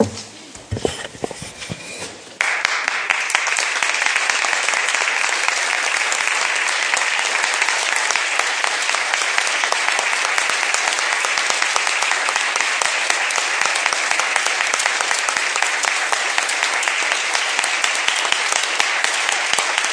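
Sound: audience clapping in appreciation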